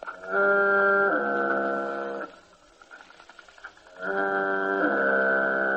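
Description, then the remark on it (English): A recording of a foghorn fed through a Sonovox and coming out of a person's mouth: a deep, buzzy drone in two long blasts separated by a short gap, its tone shifting partway through each blast as mouth, tongue and lips shape it like a vowel. No one speaks. “All right, let's turn on a recording of the foghorn, feed this into Sonovox, and thus hear the foghorn coming out of my mouth.”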